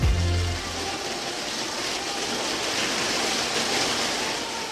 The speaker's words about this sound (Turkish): Yedi gün geçince şiddetli bir yağmur yağmaya başladı.